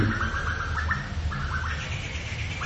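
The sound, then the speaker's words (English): A koel calls in quick, repeated bursts while being chased by another bird, which chatters more faintly alongside, all over a steady low background rumble. No one speaks. “That's a kokil who's being chased by another bird because they figured out that it's not their babies.”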